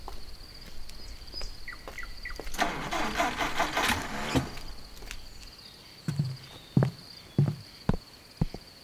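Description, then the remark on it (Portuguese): A large bus engine cranks with a harsh, rattling grind for about two seconds, then cuts out, failing to start. A few separate thuds and sputters follow, with no speech. “Porcaria de motor. Algum problema com o ônibus?”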